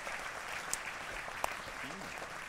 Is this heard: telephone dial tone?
no